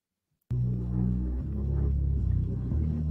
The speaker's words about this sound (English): And then lastly, we've got bass. Let's just listen to that and then we'll give our final thoughts on it.